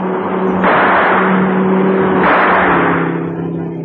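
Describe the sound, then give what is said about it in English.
A car carrying a man with a gun roars and revs as it speeds off, a steady low droning hum swelling in two loud rushing surges before easing slightly at the end. “I'm going after that car.”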